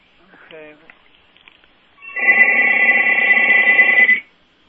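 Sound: landline telephone ringing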